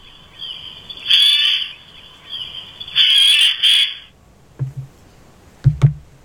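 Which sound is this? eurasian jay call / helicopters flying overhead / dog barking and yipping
eurasian jay call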